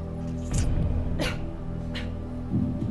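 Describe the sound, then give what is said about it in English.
Several short, harsh coughs burst out in an uneven rhythm, three or four in quick succession, over a steady low background hum with no talking. A woman filmed on camera during a TV quiz show coughs right after the answer Craig David is said aloud. “Finally, there is a cough.”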